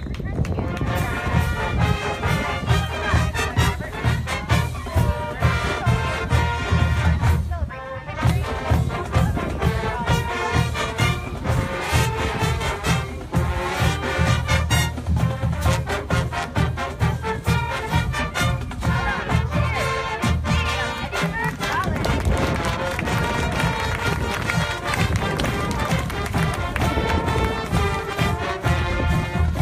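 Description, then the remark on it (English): The Bullets Marching Band plays the Spirit of Gettysburg March, a brisk, steady march, outdoors on a windy day, brass and percussion loud and continuous, with a low rumble of wind noise running underneath and a brief dip early on. “So here is the Spirit of Gettysburg March, played by the Bullets Marching Band.”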